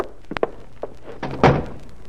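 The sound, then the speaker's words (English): A door swings shut with a solid thunk, preceded by a few light knocks and rattles from the latch and frame, with no voices. “Close that door”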